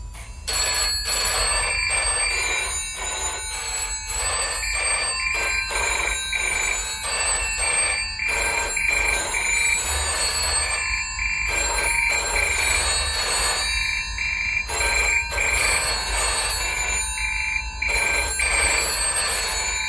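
A telephone bell rings insistently in repeated bursts with short gaps, a bright metallic trill sounding fairly loud, with no voices present.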